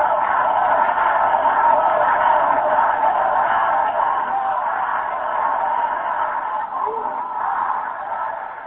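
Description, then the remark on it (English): A large anti-Chavez opposition crowd in Venezuela roars steadily at sunset on a Sunday, a dense wash of many voices chanting, cheering and singing together without pause, loud and unbroken from start to finish. “Anti-Chavez crowds chanted, cheered, and sang as the sun set on Venezuela Sunday.”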